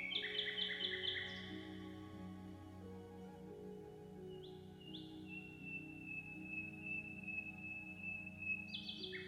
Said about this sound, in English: The song of the nightingale you heard at the end of the third movement, The Pines of the Geniculum, was one of the first appearances of electronics in an orchestration.